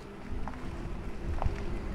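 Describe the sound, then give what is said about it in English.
A quiet, steady electric hum with a faint tonal whine over low rumbling noise, the pedestrian warning sound of a Cadillac electric car driving down a block, soft and continuous with no voices. “we put that sound in so that pedestrians and others can hear that the vehicle is approaching”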